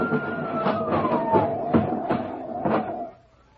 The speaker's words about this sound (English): Stand back there, everybody. Let that ambulance through.